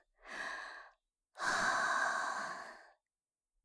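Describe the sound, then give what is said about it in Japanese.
Two airy exhalations blown onto the listener with no talking: a short breath of under a second, a brief pause, then a longer, stronger breath lasting about a second and a half. “ほら、私の吐息が当たってるでしょ。”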